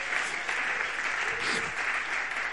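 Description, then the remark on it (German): A crowd applauds steadily, a dense wash of many hands clapping at an even, fairly loud level throughout, with a brief murmur of voices underneath partway through. “Ein Applaus.”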